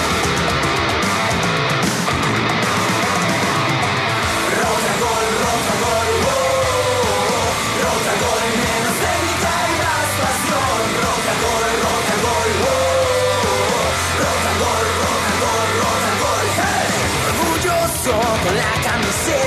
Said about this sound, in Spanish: Muchos gritos y el partido empieza.